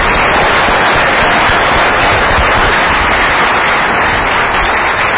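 A crowd applauds steadily, a dense, loud wash of many hands clapping together that holds at an even level for several seconds, with no voices standing out.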